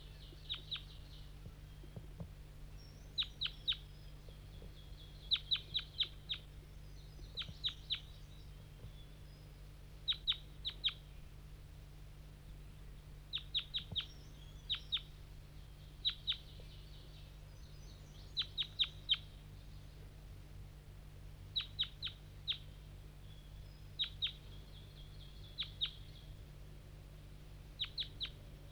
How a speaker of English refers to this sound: So recording, 5-3's lured in some wild birds, flying from the bottom of the hollow, through the fog. I don't hear them anymore.